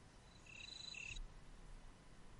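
A cricket chirps in a steady, high-pitched trill for under a second, then cuts off abruptly, leaving only a soft low background hiss. No one speaks.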